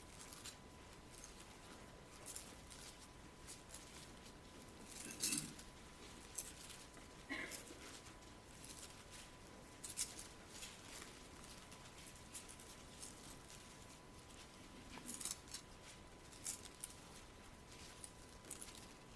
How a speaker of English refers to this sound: Be surprised how encouraging it is to hear pages turning. Look at Numbers 35.